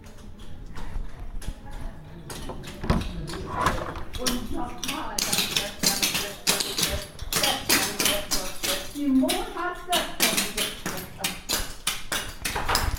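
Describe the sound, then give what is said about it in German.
Rapid, rhythmic tapping of clogging shoes striking a hard floor during a clogging dance session in a room, a dense run of sharp clacks that stays steady, with faint voices in the background. “Und man hört auch schon so ein bisschen, dass es dort schon ordentlich zur Sache geht.”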